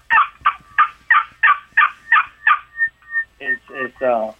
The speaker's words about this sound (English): If you're a beginner, of which some people are, you can use box call to imitate quite a few sounds. So let me just, this is, all right, this is a box call. Okay.